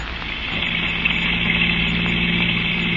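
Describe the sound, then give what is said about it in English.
A car engine drones steadily while driving through heavy rain, a low, even hum with a constant rumbling undertone and a broad wash of road noise, continuous throughout with no voices. “Your wife and Philip Webb, also a chemist at the Foundation, were talking as you drove through the heavy rain.”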